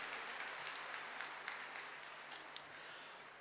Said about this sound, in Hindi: सो ऐसी थी ये ऋतिका मिश्रा जी जिन्होंने आपको अभी अपने नृत्य से मनमोहक नृत्य से आपको आनंदित किया। एक बार मैं चाहूंगा फिर से जोरदार ताली उनके लिए बजाएं।